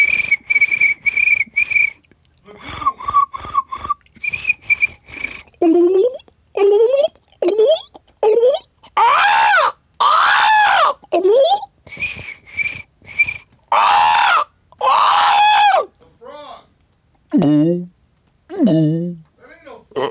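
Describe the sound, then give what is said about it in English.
A voice imitates swamp creatures: a few short, steady high whistles, then a run of loud croaking, warbling calls that swoop up and down in pitch, separated by brief pauses. “Sound effect drive is out, so make some, try to make some noise of like swamp stuff.”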